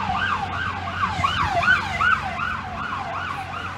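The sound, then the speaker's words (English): Emergency vehicle sirens pass a huge gathering of hundreds of thousands of people, yelping in fast, repeating up-and-down sweeps, fairly loud and steady, over a low rumble of road traffic. No one speaks. “Here comes some more sirens.”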